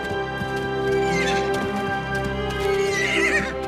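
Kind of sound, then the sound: animal, horse whinnying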